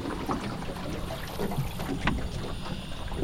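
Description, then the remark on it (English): Quiet outdoor ambience of a marsh, a steady low wash of wind and lapping water with faint scattered natural sounds, heard from a still, drifting boat with its engine switched off. “She kills the engine, and we sit and listen a moment to the marsh.”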